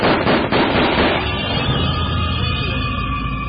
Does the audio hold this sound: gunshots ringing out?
yes